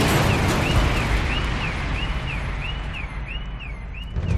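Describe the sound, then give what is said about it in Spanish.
A car bomb explosion, set off from 100 kilos of explosive planted by the group ETA, gives a heavy, sustained roar, loud, with a steady warbling alarm-like tone cycling above the rumbling noise and no voices. The blast leaves a huge crater and throws the car onto a rooftop 35 metres up. “La explosión fue brutal.”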